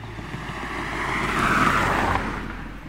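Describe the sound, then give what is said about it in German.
A car drives past, its broad engine and road noise swelling to a peak around the middle and then easing off again. No one speaks. “Ist das mein Auto, das da gerade an mir vorbeifährt?”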